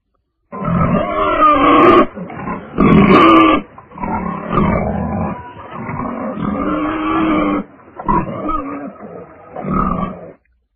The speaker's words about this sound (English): I hear a pig.